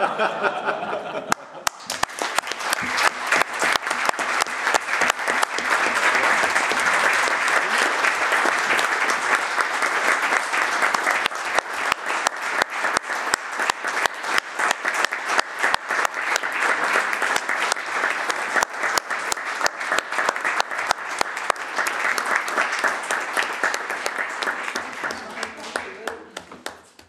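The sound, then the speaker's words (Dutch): Sustained applause from a crowd voting by hand clapping to approve a person: many hands clapping loudly and steadily for over twenty seconds, with scattered chuckles mixed in before it tapers off. “nu moet er eigenlijk over u gestemd worden, maar er was een brede consensus om dat met handgeklap te doen.”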